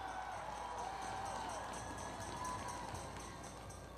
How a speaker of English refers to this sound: I want to give you a very warm clap. Let's join me in clapping you. Come on.